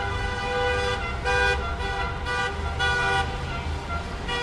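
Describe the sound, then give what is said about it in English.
Car horns honk repeatedly in overlapping bursts, some long and sustained, over a steady rumble of traffic, from cars circling outside the Capitol all day in protest of the debate going on inside. “Honking cars circled the Capitol all day, protesting the debate going on inside.”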